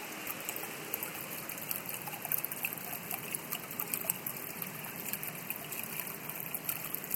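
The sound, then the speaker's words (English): Steady water trickling and splashing down a water wall, a continuous hiss of falling droplets with no pauses, fairly loud and alone without any talking. “And here is one of those water walls.”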